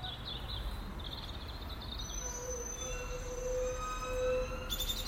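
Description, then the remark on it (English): Train brakes squeal in long, high-pitched metallic whines over a steady low rumble of rolling wheels. The squeal slides and overlaps throughout, with no one talking. “Oh, and that'll be the rare crested rusty brake bird.”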